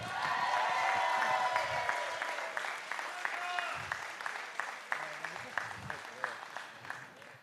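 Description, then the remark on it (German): An audience claps loudly in a sustained burst as new Schalke player Ron Schallenberg is welcomed on stage, the applause thinning into scattered, rhythmic claps toward the end, with some faint voices mixed in. “Applaus!”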